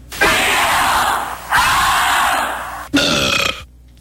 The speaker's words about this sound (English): That's the Wheel of Fortune crowd with a Homer Simpson burp at the end.